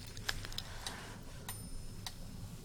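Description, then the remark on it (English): Quiet, crisp metronome ticks with no one speaking; the sharp clicks recur every half second or so, though the spacing is not perfectly even. “For you do sometimes even lose track of my voice as the metronome's ticking takes over your thoughts.”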